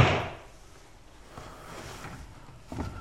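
A pan cupboard door is pulled open with a scraping clatter, then a soft rustle follows and a second wooden knock lands near the end. No one speaks.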